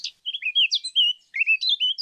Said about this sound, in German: Welche Botschaft teilt uns dieser Vogel, eine Mönchsgrasmücke, mit?